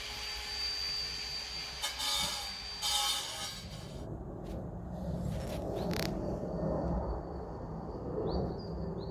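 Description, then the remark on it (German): Construction site noise: a steady machine drone with a thin high whine, broken by loud hissing bursts early on, then a lower rumble with a few sharp metallic clanks. No one speaks. “Was ist das denn? Baustelle.”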